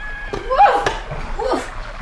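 Irregular splashing of water as someone wades in to catch small barrels, with short vocal exclamations rising over the sloshing.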